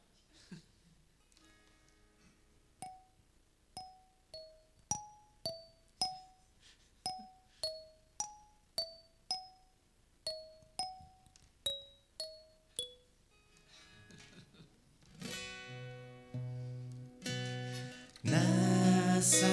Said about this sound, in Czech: kterou teď budeme zpívat v jedné úplně neobvyklé tónině, která je daná tady tou kalimbou, na kterou zahraju předehru. Takže snad to zvládneme.